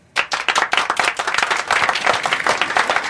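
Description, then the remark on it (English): A group of people clapping in response to Lindsey Graham's statement that Joe Biden and Kamala Harris are lawfully elected, a steady, dense burst of sharp overlapping hand claps, fairly loud from start to finish, with no voices. “And I'm not the only one clapping.”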